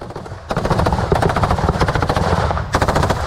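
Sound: machine gun fire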